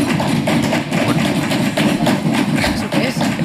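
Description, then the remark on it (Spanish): Members of the Spanish parliamentary investigation commission on the DANA bang on the tables instead of applauding, in a steady, loud, continuous drumming of overlapping thumps, with a dense rumble filling the gaps between beats. “¿Pero y ese pataleo? No, pueden aplaudir, creo, en las comisiones estas, le dan a la mesa.”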